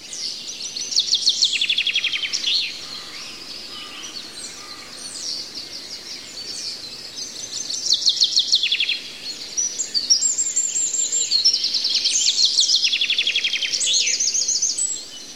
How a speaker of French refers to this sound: Tu te reposes en écoutant les bruits de la forêt, les oiseaux qui chantent, le vent qui souffle.